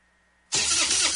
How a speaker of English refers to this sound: Nothing is more frustrating than a dead battery. When your truck won't start or your boat or ATV leaves you stranded far from home, that's not good.